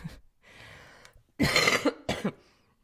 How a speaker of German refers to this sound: Ab und zu muss ich auch mal husten.